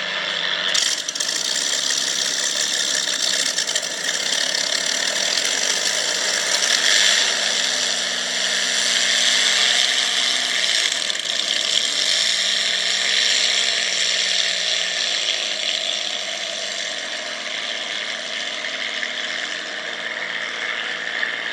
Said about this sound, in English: You just heard the sounds of vintage hydroplanes taking off from the docks, and including the Atlas Van Lines on the Merlin engine. It's a great sound.